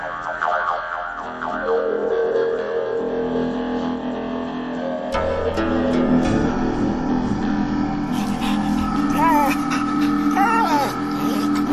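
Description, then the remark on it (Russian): A dog whines in short, wavering high-pitched cries, first briefly at the start and again near the end, over a steady droning musical background. “На утро у дома заскулила собака.”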